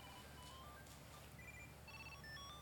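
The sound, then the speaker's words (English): A Tile key tracker, connected to a phone, a watch and keys, plays its electronic chime: a quick, bright melody of high beeping notes rising and falling in short runs, fairly faint, with no one talking. “It just like sings. And so here's the deal. I got it connected to my phone, to my watch, and to my keys.”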